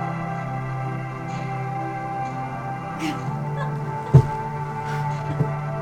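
A slow ambient musical piece of sustained, layered droning tones that holds steady and fairly loud throughout, with a couple of brief soft knocks near the end and no voices.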